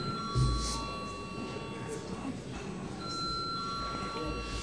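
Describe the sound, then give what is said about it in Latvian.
A parliament chamber bell rings steadily and without a break for several seconds before a secret-ballot vote on appointing a district city court judge. It is a sustained metallic tone over the low murmur and rustle of the chamber. “Paldies, lūdzu zvanu.”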